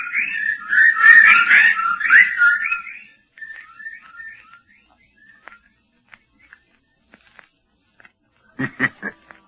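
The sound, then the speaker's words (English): A dense, high, warbling flurry of bird calls for a few seconds thins into scattered single chirps, then ends with a few short, sharp bursts of sound. “The birds.”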